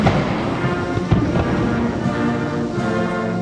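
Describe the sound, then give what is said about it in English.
A heavy ceremonial cannon boom, fired from Tiananmen Square, thuds out amid a dense, continuous wash of a military brass band playing the U.S. national anthem, the blast loud against the sustained tones. “A military band played the U.S. national anthem as cannons were fired from Tiananmen Square.”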